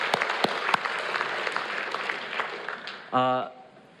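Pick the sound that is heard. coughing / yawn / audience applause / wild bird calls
audience applause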